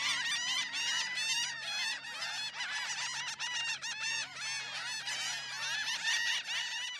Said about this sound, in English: The laughing gulls are always present on the beach where you hear them calling to each other.